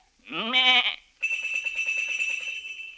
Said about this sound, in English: He say, a lot of sheep have bells, for these sheep are tuned, so as to make the chromatic scales, which he make use of by knocking the sheep on the head with his crook. A signal to them to ring the bell. He do it like this.